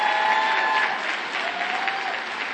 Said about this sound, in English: I am so glad God has changed me. Are you, if you're glad you God changed you, would you give the Lord a hand clap today?